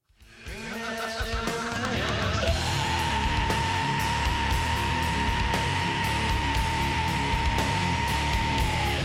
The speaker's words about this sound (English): Screaming punk and heavy metal vocals may sound like they hurt, and often they do.